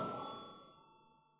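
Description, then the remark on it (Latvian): A bell in the Latvian parliament chamber rings out once before a vote on a bill, with a bright metallic strike, its clear tones sustaining and slowly fading over about a second and a half, with no voices present. “Paldies, lūdzu zvanu.”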